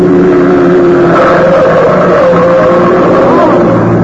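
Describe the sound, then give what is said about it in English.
A car engine roars loudly for several seconds, a steady throaty rumble with shifting pitch, as the car speeds through a red light at an intersection and passes about 2 feet from people crossing the street. “There's a car coming right through that red light.”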